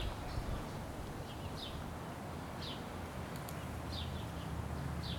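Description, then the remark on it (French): Wild birds, among them blue tit, blackbird, blackcap, great tit, black redstart and house sparrow, sing, short high chirps repeating every second or so over a steady outdoor rush of wind and rustling. No one speaks. “La mésange bleue, le merle noir, la fauvette à tête noire, la citelle torche-peau, la mésange charbonnière, le rouge-queue noir, le moineau domestique, la corneille noire, le jais des chênes, le verdier d'Europe et la tourterelle turque.”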